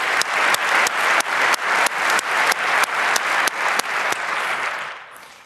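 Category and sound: crowd, audience applause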